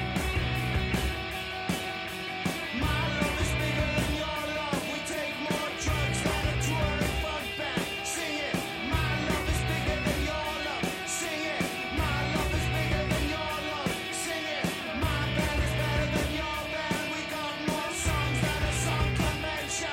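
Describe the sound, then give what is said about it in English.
A loud, dense rock band from Texas plays throughout, with pounding drums and distorted guitars driving a steady beat while a vocalist shouts over the top. “Let's turn it up just for a second when they get into the shouting.”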